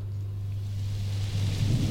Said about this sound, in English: That's the storm.